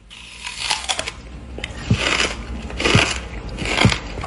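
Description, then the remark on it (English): A Canadian man eats a whole watermelon, rind included: three loud crunches spaced about a second apart, each with a sharp crackling snap over a steady background hiss, with no talking. “Dude eats the entire watermelon. You hear how crunchy that is?”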